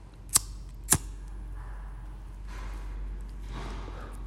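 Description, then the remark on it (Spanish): Two sharp metallic clicks about half a second apart, a lighter being flicked by someone about to smoke in a hallway, followed by soft breathy hissing in an otherwise quiet setting. “ruido de encendedor”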